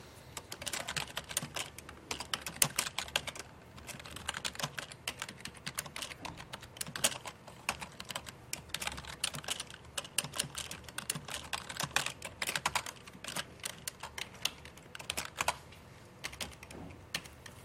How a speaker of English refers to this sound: At this point, typing these is just an exercise of, you know, typing things.